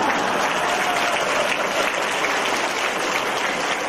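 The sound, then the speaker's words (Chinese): An audience applauds steadily for about four seconds, a dense, even patter of hand claps at a constant moderate loudness with no voices over it. “你们知道为什么现在鼓掌人不多啊？”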